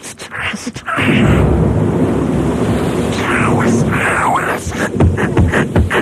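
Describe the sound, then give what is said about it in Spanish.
A loud thunderstorm sound effect kicks in after about a second: deep rolling rumble over a dense, steady hiss of pouring rain that continues without a break to the end. “Espérate, que te montamos una lluvia aquí en directo, tío.”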